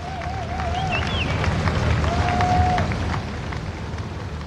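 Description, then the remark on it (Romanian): A large crowd of thousands of mourners applauds continuously for the queen as her coffin arrives at Buckingham Palace around 10 pm, the clapping dense and steady throughout, with scattered whistles rising above the noise and a broad roar of many people. “Aplauze pentru regina.”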